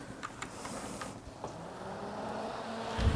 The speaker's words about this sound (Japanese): 今これ風の音聞こえるでしょうか。これはですね、 USB の扇風機、これはですね、まあそういう意味では非常に役に立つんです。今これパソコン電源が入った状態ですから、USB から電源が供給されて、風が来てますね。